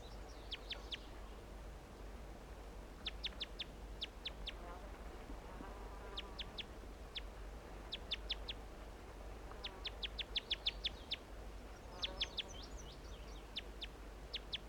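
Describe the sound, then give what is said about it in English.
A wild male songbird in a big white pine across a creek sings repeated bursts of sharp, high, clipped notes in quick clusters, pausing between phrases, with softer warbling in between over a steady low hum and faint background noise. “Start recording that male song.”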